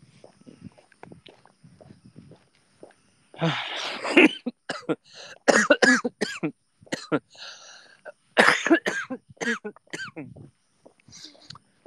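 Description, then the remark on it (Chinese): Several loud, harsh coughs from a person with a cold that has not fully cleared come in bursts, separated by brief pauses and some quieter breathy sounds, with no talking in between. “感冒没有好透，有点咳嗽啊，不好意思，声音有点大，估计把有的快睡着的宝贝给吵醒了。”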